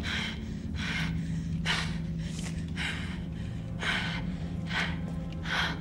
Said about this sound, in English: The only sound we hear during the scene is her frantic breathing as she grasps for something, anything, in this inky darkness while the killer watches her silently with night vision goggles.